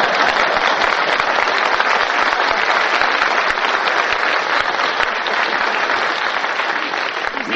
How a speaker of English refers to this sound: Where do you think I got my five children? Out front, applauding like mad.